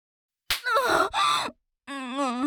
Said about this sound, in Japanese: ビンタされた。私女なのに、課長なのに、オスに本気でビンタされて怒られた。